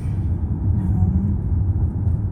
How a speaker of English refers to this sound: And plus, the car is really loud, so I'm just going to stop it here at 15 minutes.